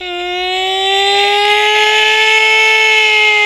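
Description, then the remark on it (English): A tornado siren test: a loud, steady siren tone holding one pitch with rich harmonics, rising slightly at the start and then sustaining at full volume for several seconds, with no voices. “Can you give me a test for the tornado siren?”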